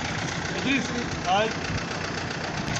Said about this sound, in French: Moteur encore en marche, le gros véhicule de transport CBH vient d'arriver à la douane de Birao, République centrafricaine. En provenance de Khartoum, la capitale soudanaise, le camion transporte des passagers et des marchandises.